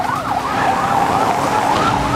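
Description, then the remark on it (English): A police car siren in Springfield, Florida, wails continuously during a high-speed pursuit of a stolen car on streets slick after a summer rain, its pitch sweeping up and down in quick rising and falling cycles, loud over a low rumble of road noise. “Police are in hot pursuit of a stolen car.”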